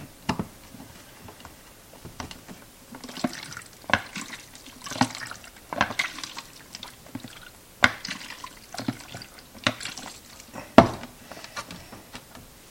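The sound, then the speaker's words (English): Liquid sloshes inside a closed film developing tank, lid on tight, as it is repeatedly inverted at about four inversions per minute, giving bursts of splashing with sharp clicks and knocks, fairly quiet, with no talking. “4 inversions per minute it calls for. Get that lid on good and tight so we don't lose any of it.”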